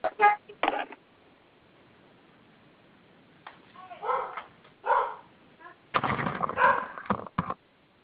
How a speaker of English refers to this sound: Hello, Cassidy. Hey, Cassidy, calm down. She's going to keep barking until I go down there because there's nobody else home.